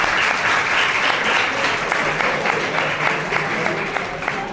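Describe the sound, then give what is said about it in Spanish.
Sustained applause from a crowd at a secondary school, welcoming the school's director during a radio programme visit, a dense steady patter of many hands clapping at an even loudness for several seconds, with no talking over it. “Oye, te damos un aplauso.”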